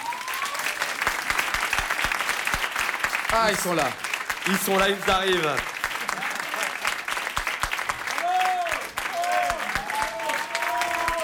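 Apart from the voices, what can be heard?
audience applause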